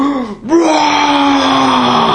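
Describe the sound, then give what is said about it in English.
A person imitates the roar of a large creature that flaps down and reaches its head into a cavern entrance, roaring as loud as it can: a loud, strained vocal bellow that starts with a short growl, dips briefly, then swells into a long, steady, harsh cry lasting about two seconds. “roars as loud as he can, and he goes...”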